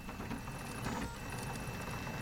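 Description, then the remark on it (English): A 3D printer printing a gun barrel, a job taking about half an hour, runs steadily, giving a continuous low mechanical whir and rumble with a thin, faint high whine on top, at an even level and with no voices. “The printer you can hear took just half an hour to create the barrel.”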